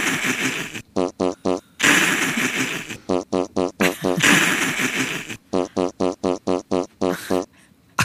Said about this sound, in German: Carmen hat glücklicherweise dieses Furzgeräusch gefunden bei uns im System